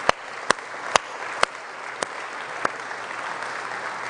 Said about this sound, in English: So I just want to take a minute and say thank you. Can we give a round of applause to those who serve faithfully in Park Kids?